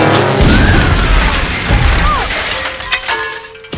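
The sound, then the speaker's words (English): A loud crash into rocks: a heavy booming impact with shattering, grinding debris that rumbles on for a few seconds before tapering off, with faint whistling tones scattered through it. “Vanessa zooms higher and creates a love heart with red smoke. and immediately crashes into rocks.”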